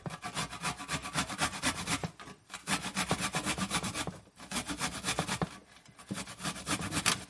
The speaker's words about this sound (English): Now let's get those 2 garlic cloves grated.